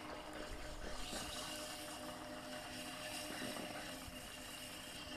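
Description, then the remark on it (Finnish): A pottery wheel, its speed set with a foot pedal, spins at full speed with a little water added as wet dark grey clay is shaped into a salt cave, giving a steady, continuous motor whir with a faint high whine and a rough, churning hiss that holds even throughout, with no voices. “Joo, ja eli tässä on ihan jalalla säädettävä, että kuinka kovaa tämä pyörä pyörii. Ja sitten laitetaan vähän vettä ja pyörä pyörii täysille.”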